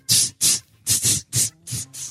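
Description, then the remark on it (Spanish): A voice makes about seven short, sharp hissing exhales in a quick uneven rhythm, imitating the 'spray' type of gym partner who exhales with each punch thrown. Each puff is bright and breathy, with the last two slightly softer. “Y no es que estés acompañándolo, no son efectos de sonido, estás exhalando con el golpe.”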